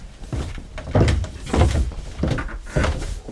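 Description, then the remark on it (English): A basement freezer door is pulled open and a small tray of bait herring taken out, with a handful of dull thumps and scraping rattles spread over a few seconds and no one talking. “leads the way down the narrow, steep stairs into his basement and opens the door of his freezer.”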